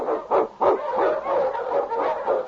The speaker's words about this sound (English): On, King! On, you husky!